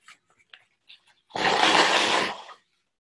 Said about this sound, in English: And I'm just going to make a little noise here because I need to blow my nose. There we go.